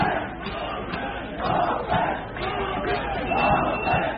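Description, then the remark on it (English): A large crowd of frustrated migrants on the Serbian side of the border with Hungary shouts and chants together, calling for crossing points to be opened, many voices rising and falling in loud waves, dense and continuous throughout, with no single voice standing out. “Large crowds of migrants are growing frustrated and calling for crossing points to be opened.”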